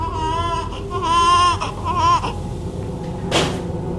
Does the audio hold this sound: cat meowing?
no